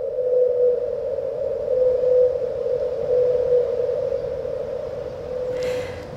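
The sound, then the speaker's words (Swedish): Whale song at 52 hertz from the world's loneliest whale: one long, steady droning hum that holds a single pitch for the whole stretch, swelling slightly in a few places, with no talking over it. “Världens ensammaste val må sjunga lite udda, men det finns många öron i havet som hör hans sång.”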